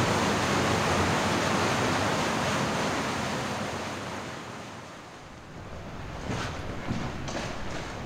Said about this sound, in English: Suddenly, that thundering rumble I could hear earlier. I suspect this is it. So we're going up this little wall and then back on top and along that way. Over and above the waterfall.